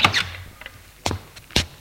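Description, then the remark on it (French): The door of a fifth-floor apartment being opened: a few sharp clicks and dull clunks of a latch and handle, spaced out with short pauses in between, fairly loud against a quiet background, with no voices. “La porte s'ouvre.”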